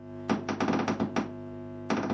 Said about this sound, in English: I'm just dropping now with a dripper some water on our rain sensor, which basically measures the sound and then analyzes the sound later on and tells me how big the drops were.